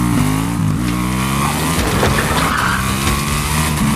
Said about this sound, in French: Voilà, Jean Valjean qui déboule en moto dans la salle du tribunal, dans cette adaptation, on l'a compris, pas tout à fait politiquement correcte, des Misérables de Victor Hugo que vous signez, Eric Salch chez Glénat.